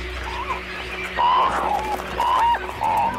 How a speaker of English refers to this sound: To add to his confusion, more cormorants just keep coming.